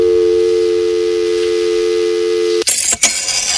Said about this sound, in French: Voilà, alors autre son, celui du téléphone et du fax, et là aussi, c'est une autre époque.